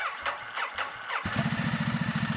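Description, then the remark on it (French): A just-repaired motorcycle at a motorcycle repair garage in Yuwaru cranks a few times with rhythmic starter bursts, then catches at about 1.2 seconds and settles into a steady, loud idle with a throbbing pulse. “Ici, vous entendez le démarrage d'une moto que vient de réparer Ibrahim Diko.”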